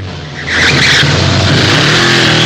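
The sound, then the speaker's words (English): A car engine roars loudly as the car suddenly speeds away, then a high tire screech cuts in as it brakes hard on a bend, with a rough skidding hiss and steady engine rumble continuing to the end. “The car suddenly speeds away, but then has to brake sharply on a bend, giving Frank the opportunity to overtake.”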